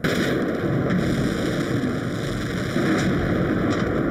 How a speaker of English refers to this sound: Oh, there's the explosion. It's just gone. Something is gone. Huge fireball, great big black plume of smoke rising up now.